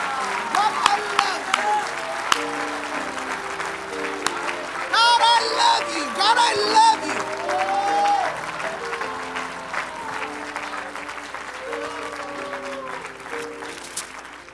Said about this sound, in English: And why don't we clap our hands real hard unto the Lord right now?